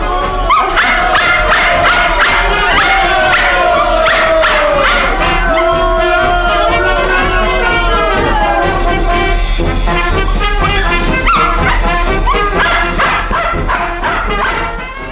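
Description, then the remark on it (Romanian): A small dog barks and yips excitedly in rapid, repeated bursts, loud, with whiny, whimpering cries between the sharp barks throughout. “Latră-i ca să-i dea botul lui tată mare.”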